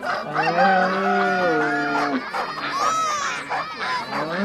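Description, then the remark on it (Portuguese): A loud rooster crow stretches out over the first couple of seconds, followed by a busy overlapping chorus of chickens clucking and squawking, from two chickens and a rooster kept inside a family's house, with the noise continuing without a break. “Ele pediu para que colocasse 2 galinhas, 1 galo, 1 ganso, 1 bode e 1 vaca para morar junto com todo mundo dentro de casa.”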